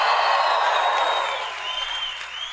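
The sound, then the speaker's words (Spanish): An audience at a Spanish-language church sermon erupts in a sustained, dense roar of joyful shouting and cheering, answering the preacher's call for a shout of joy; it holds steady for a few seconds before easing slightly toward the end. “Los que crean eso, den un grito de júbilo ahora.”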